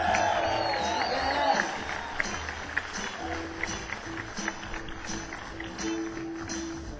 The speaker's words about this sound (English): Here is Lois Reeves, who is 7 of 12. A nice round of applause for Lois Reeves.